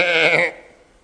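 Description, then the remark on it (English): A person briefly imitates a sheep, giving one wavering, quavering bleat for about half a second, loud, before it cuts off into quiet. “Sheep dressed up like a wolf is still a sheep.”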